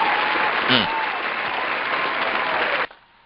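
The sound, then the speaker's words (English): A crowd applauds with dense, steady clapping, a brief voice or cheer rising early on, before the applause cuts off abruptly near the end. “What a hand clap.”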